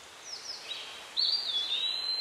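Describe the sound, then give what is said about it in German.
Continuous high-pitched birdsong and chirping from several birds in a forest, growing louder halfway through, over a soft outdoor ambience with no voices. “Die Vögel zwitschern.”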